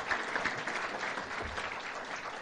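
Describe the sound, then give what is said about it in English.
A crowd of people claps steadily for the hosts and for rabbi Reuven Bulka, a dense, even patter of applause holding at a constant level throughout, with no voices rising above it. “And while you're applauding, there's a great rabbi sitting here, Reuven Bulka.”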